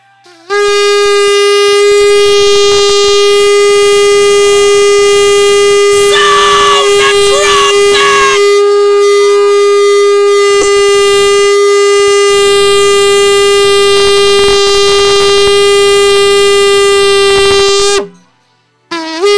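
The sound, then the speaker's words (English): A trumpet-like horn blares one long, unbroken alarm note at a steady pitch, loud, sustained for about seventeen seconds before cutting off abruptly, with faint crowd noise beneath. “Tell the Lord, you call me, you summon me, reach for the sofa and sound an alarm. When God call it for his people, he sound the trumpet.”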